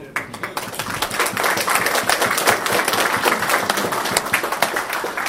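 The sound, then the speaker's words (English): A crowd of members of the Scottish Railway Preservation Society applauds steadily, many hands clapping in a dense, continuous patter that holds at an even, fairly loud level for several seconds without any talking. “So give yourself a good round of applause, ladies and gentlemen.”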